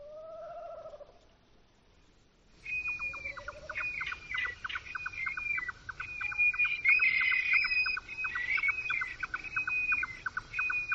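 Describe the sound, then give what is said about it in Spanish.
Eurasian stone-curlew calling at night: a few short, mid-pitched wailing whistles, then a dense, steady chorus of rapid high chirps and trills continues to the end. No one speaks. “Es un alcaraván.”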